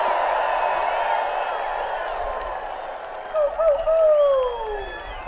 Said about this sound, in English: Hear that roar one more time, bouncing off all of the whole crowd.